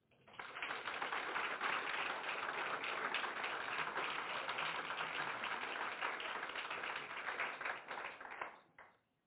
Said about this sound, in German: Aber du bist natürlich immer willkommen mit einem Applaus.